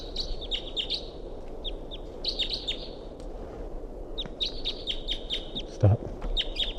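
A wild bird in flight, coming back while decoy birds respond, calls in quick bursts of high, thin chirps, repeated in clusters throughout, over a steady low rumbling background noise.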